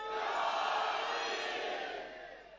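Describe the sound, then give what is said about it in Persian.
A large crowd, right hands raised, shouts the religious cry "Ya Ali" together in one loud, sustained roar of many voices, holding steady for about two seconds before slowly fading at the end. “آنچه در ذهنتون هست جوری یا علی بگید، احساس کنید در آسمان نجف تنین انداز شد، با دست راست بالا اومده با همه فریاد، اگر خسته جانی بگو یا علی، یا علی.”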